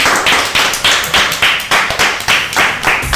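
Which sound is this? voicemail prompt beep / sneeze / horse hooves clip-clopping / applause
applause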